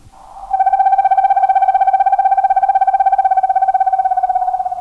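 A screech owl gives a long, steady trill, one rapid tremolo on a single pitch that holds for several seconds, fairly loud with nothing else around it.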